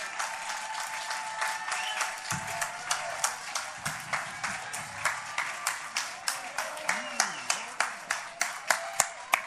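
Enthusiastic audience applause for a band after its live music on a cold night: many hands clap densely before settling into a steady, rhythmic clap toward the end, with faint tonal sounds and murmurs beneath.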